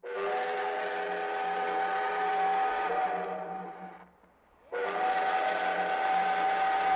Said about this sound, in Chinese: 火车鸣笛后鼓足了马力向前行驶。